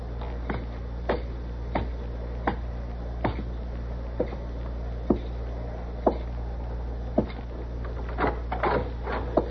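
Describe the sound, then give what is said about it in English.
A wooden chair is lifted and shifted about, giving a string of irregular sharp knocks and clunks over a steady low hum. No voices are heard. “Be quiet while I get over here and hoist this chair.”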